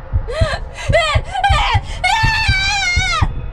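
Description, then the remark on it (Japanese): A woman's high-pitched, wavering scream, broken into a few loud cries before one long sustained shriek, intense, with dull rhythmic thumps underneath, as two creatures gouge out her eyes with serrated spoons in a train car. “Her face took on a fierce look and she let out a terrible scream.”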